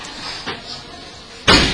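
A door shuts with a sharp, fairly loud thud near the end, preceded by a softer bump and quiet room noise; no one speaks.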